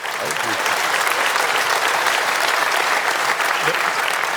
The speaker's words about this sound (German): Ja, viel Applaus